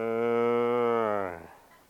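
A single long, low, loud cow moo, holding steady for over a second before trailing off into quiet.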